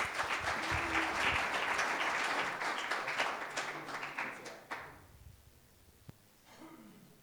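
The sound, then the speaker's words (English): A crowd applauds with dense, steady clapping for about five seconds, then the sound thins out into a few scattered claps and fades to near quiet. “So why don't you just give him a round of applause while we invite him up.”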